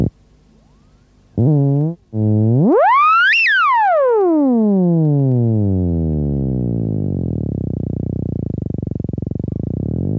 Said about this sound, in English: A teacher mentioned it and said that there was a thing that you can wave your hands around a few antennas and that the thing was called a theremin.